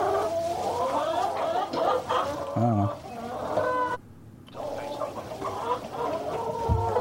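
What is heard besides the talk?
chickens clucking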